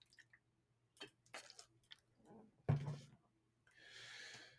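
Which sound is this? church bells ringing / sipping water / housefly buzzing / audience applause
sipping water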